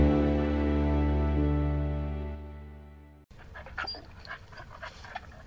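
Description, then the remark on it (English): A sustained musical chord fades out, then cuts abruptly to a dog panting, with quick, breathy huffs repeating for about two seconds. “Americans love dogs.”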